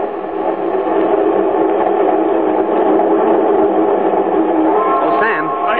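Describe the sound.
A steady, continuous rumble of a train rolling along the rails, loud, with a dense mechanical drone throughout and faint voice-like tones rising near the end.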